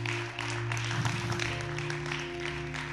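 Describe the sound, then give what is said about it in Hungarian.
At a religious service, a crowd applauds steadily for people who have just prayed to accept Jesus, a dense wash of many hands clapping for about three seconds, with sustained low musical tones humming underneath. “Tapsoljuk meg ezeket az embereket.”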